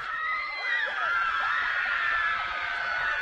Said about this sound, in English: And you can hear the New Richmond crowd just celebrating.